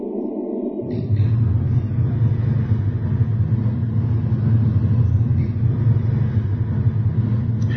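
After a brief quiet moment, a car engine's deep rumble kicks in and holds steady and fairly loud, a continuous low drone with no speech over it.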